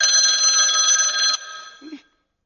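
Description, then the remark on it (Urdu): A telephone rings for an incoming call with a bright, trilling bell tone that sounds steadily for over a second, then cuts off, followed by a faint fading tail and a soft handling clunk. “جی بیٹا کال آ رہی ہے آپ کال سن رہے کال سن.”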